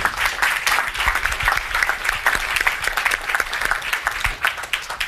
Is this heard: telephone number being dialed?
no